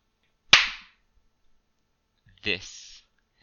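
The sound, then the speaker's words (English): A single hard, sharp slap, showing how hard to slap oneself, cracks loudly and fades quickly. After a two-second pause, a short voiced sound follows. “This is how hard you should be slapping yourself.”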